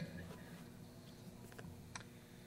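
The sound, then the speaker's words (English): Soft, sparse clock ticks sound over a low steady hum, a handful of faint clicks spaced across a couple of seconds with no voices. “The hands on the clock are moving.”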